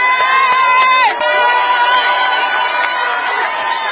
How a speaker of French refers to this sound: Pas de cérémonie, le cortège s'ébranle sur le boulevard Lumumba. Une foule innombrable les attend.